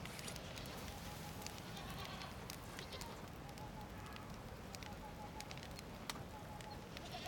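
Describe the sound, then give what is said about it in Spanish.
Goats bleat now and then amid a steady rustling outdoor background, with soft, indistinct voices underneath and a few sharp clicks and knocks scattered throughout. “Son muchas cabras, pero no sabrían qué hacer con ellas.”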